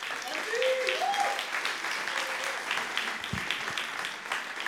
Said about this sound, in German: Und ich habe auch einen Assistenten, der darf auch einmal nach vorne kommen. Gebt ihm mal einen fetten Applaus.